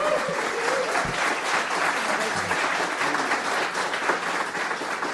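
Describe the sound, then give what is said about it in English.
A crowd applauds steadily, a dense wash of clapping with some cheering mixed in, holding at a fairly constant loud level throughout, as an audience welcomes former Ireland and Dundalk manager Stephen Kenny as a guest. “Let's hear a big cheer and a local welcome for the former Ireland and Dundalk manager, Mr.”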